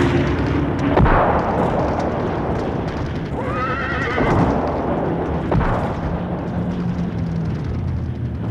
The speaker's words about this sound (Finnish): Hevonen lähti pelästyneenä laukkaamaan metsään.